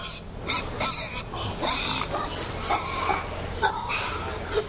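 Thousands of hogs grunt and snort in a busy barn at the Bible Pork Farm in Louisville, Illinois, overlapping noisy calls with occasional sharper squeals over a steady low rumble of ventilation, fairly loud throughout.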